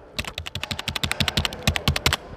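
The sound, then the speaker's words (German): Rapid, steady clatter of keys being struck on display computer keyboards in an electronics store, about twenty crisp clicks in quick succession, fairly loud, with no voices. “Tastaturen, Leute, jetzt gibt.”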